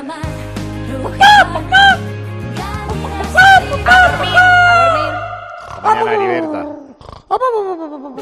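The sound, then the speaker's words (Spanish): Hens cluck in short repeated bursts, and a rooster lets out a long, drawn-out crow, both loud over a steady low musical backing. “Para ser feliz como una gallina Rujamar, tienes que comer huevos Rujamar.”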